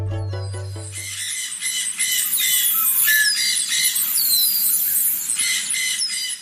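A dense chorus of tropical birds squawks and screeches continuously, loud, with overlapping shrill calls; a short low tonal chime opens the first second before the birds take over.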